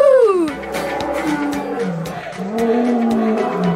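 A lion roars loudly, a long drawn-out call that sinks in pitch, then rumbling, wavering growls that carry on to the end, with no talking.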